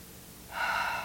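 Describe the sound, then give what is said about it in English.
A single slow, deep inhalation through the mouth, breathing gently in and pushing the diaphragm down, a soft airy rush that swells after a quiet start and holds steady, with no talking. “And just breathe gently in and push it down.”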